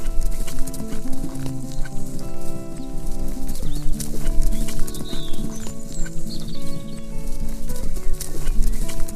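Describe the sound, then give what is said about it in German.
A white horse gallops through a summer forest, its hooves pounding in a quick, steady rhythm for the whole stretch, loud and continuous, layered over sustained tonal music, with a few faint high bird chirps. “Dein Bauch kribbelt vor Glück, während ihr durch den sommerlichen Wald galoppiert.”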